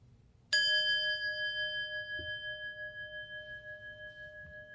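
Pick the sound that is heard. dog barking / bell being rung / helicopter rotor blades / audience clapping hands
bell being rung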